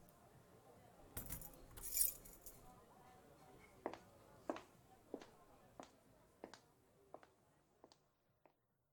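Keys jangle in a quick metallic burst as they are handed over to someone who will drive, followed by a string of lighter clinks at a steady pace that gradually grow softer, fairly clear.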